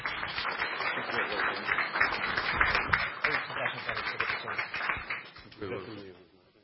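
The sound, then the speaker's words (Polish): An audience applauds a school director steadily for several seconds, a dense wash of many hands clapping at once with some voices mixed in, before the clapping thins out and fades near the end. “Brawa dla pana dyrektora.”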